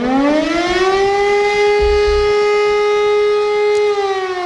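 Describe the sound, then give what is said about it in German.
A loud civil defense siren sounding an announced test alarm at 11 a.m. on a warning day wails with a steady, sustained tone rich in harmonics, holding its pitch for several seconds without any voices over it. “Der Sirenenalarm, den Sie gehört haben, ist ein angekündigter Probealarm.”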